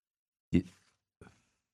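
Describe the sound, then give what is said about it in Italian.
Two short papery rustles from a very thin page being turned: a fuller swish first, then a quieter brush a moment later, with silence around them and no talking. “Scusate, sto voltando la pagina che è leggerissima e sottilissima.”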